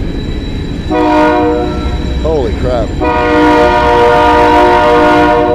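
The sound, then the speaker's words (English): A loud train rumbles across a steel bridge, with sustained metallic, horn-like tones ringing over a heavy roar that swells louder midway; a man briefly exclaims in the middle. “A train is just rolling across the steel bridge.”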